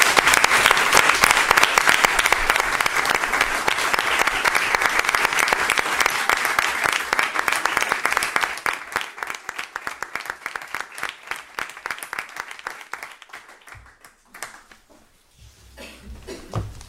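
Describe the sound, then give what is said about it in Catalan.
An audience at a town council plenary session applauds after a unanimous vote, with dense, sustained clapping that stays loud for about eight seconds, then thins into scattered individual claps and fades out toward the end. “Doncs jo crec que també es mereix un altre aplaudiment per tota aquesta feina.”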